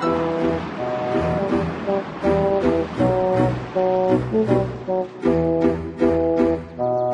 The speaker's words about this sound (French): Il attendit, tremblant au milieu de la tourmente, mais peu à peu les vagues le repoussèrent vers le rivage.